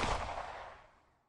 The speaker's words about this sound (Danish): Herfra pakker de en piknikkurv og tager ud i den lille lysning i Nørreskoven. Og her går 2 skud af.